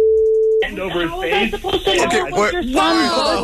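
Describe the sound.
A single steady electronic phone tone sounds for about half a second, a plain mid-pitched beep of a call connecting, then cuts straight into a person talking.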